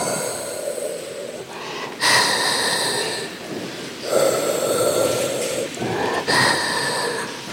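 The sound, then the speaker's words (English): Steady, rhythmic mechanical breathing from a hospital respirator for a patient in a coma: hissing, whooshing breath cycles repeat about every two seconds, moderately loud, with no one talking and no heart-monitor beep. “Instead, what we have is this, like, steady, rhythmic, mechanical breathing.”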